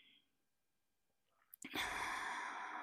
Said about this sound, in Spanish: Cuando inicia la contracción, inhala lento, profundo, profundo.